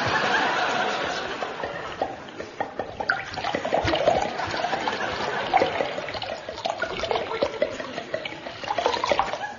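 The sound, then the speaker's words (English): Liquid pours steadily into a glass, a continuous splashing trickle with small gurgles running the whole time, with no one speaking. “Have another? Just a small one, please.”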